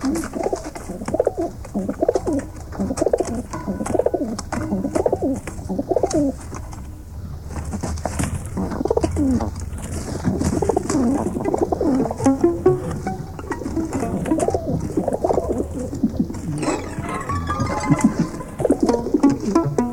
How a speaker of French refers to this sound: Il n'y a que les pigeons.